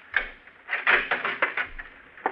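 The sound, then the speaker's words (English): A key scrapes and turns in a door lock, giving a string of sharp metallic clicks and rattles spread over about two seconds, with no voices. “I'd been there about a half an hour when I heard his key in the lock.”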